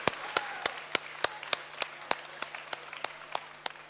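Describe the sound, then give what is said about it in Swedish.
Steady rhythmic clapping by an audience applauding a team at an awards event, about fourteen sharp claps at an even pace over a faint background hum, moderately loud, with no one talking. “Stor applåd för er!”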